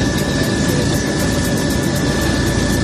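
firefighting helicopter flying overhead

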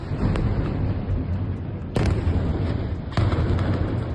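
explosions

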